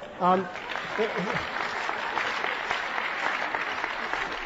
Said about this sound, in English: I don't know if you're applauding the questioner or me, but who cares?